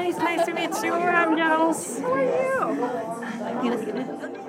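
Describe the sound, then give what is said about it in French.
Dense crowd chatter of Trump supporters gathered at an election-night watch party to follow the results, many overlapping voices talking at once in a steady, lively murmur with occasional louder exclamations rising above the din. “Alors ce soir, des militants trumpistes se réunissent pour regarder ensemble les résultats et célébrer la victoire probable de leur candidat Donald Trump.”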